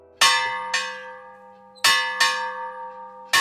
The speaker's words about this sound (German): Doch Matthias Toplak hat den Klöppel und hängt ihn bei Bedarf ein. Für mich läutet er die Glocke.